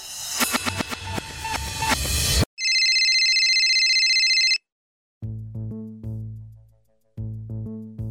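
Loud phone ringtones play one after another: a clattering burst, then a sustained high electronic trill, then a short melodic tune that pauses and starts again. Nobody speaks.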